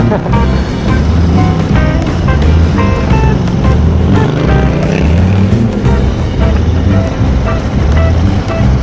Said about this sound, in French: Il y a des bouchons en moto, c'est quand même le comble, être dans les bouchons en moto.